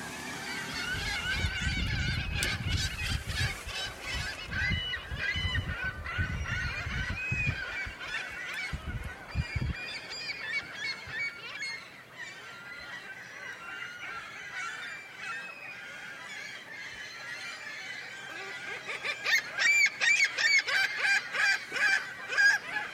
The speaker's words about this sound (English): Did you really want to hear the geese? Come on. Okay, geese.